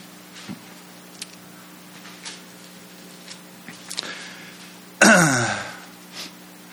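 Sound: coughing and throat clearing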